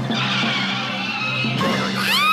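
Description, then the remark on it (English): A car skids to a sudden stop, causing a car accident: a loud, sustained tire screech that shifts pitch partway through and rises sharply near the end, with no talking. “You passed the bus stop, and you caused a car accident by coming to a sudden stop.”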